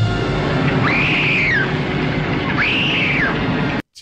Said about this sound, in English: All right. Here's a terrible scream.